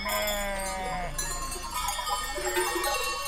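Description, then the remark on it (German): Herds of sheep and goats bleat in overlapping calls while many small bells clank and jingle continuously, a dense, busy outdoor din with no talking. Shepherds wait with the herds, several thousand animals, many decorated, in the lanes of a village in Portugal's Serra da Estrela on the eve of São João. “Überall in den Gassen warten Hirten mit ihren Schafs- und Ziegenherden auf den Start der Romaria, eine Prozession rund um die kleine Dorfkirche São João Batista, Johannes der Täufer.”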